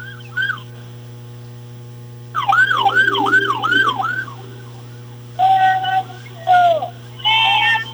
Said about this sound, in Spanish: ahí viene una ambulancia, la van a dejar pasar.